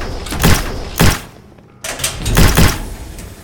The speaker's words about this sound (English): we're running for it full tilt, falling over each other to get to the door, seal that shit up good behind us.